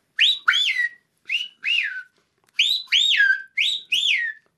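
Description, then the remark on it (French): Two screaming pihas in French Guiana trade loud, ringing whistled calls, each a pair of sharp notes swooping up and then sliding down, repeated in quick bursts with brief silent gaps between them. “Et là, ce sont deux piao qui se répondent.”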